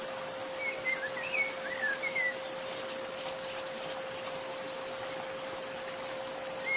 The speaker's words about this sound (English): Now, imagine yourself in a cool, dark forest. Walk along a path by a bubbling spring.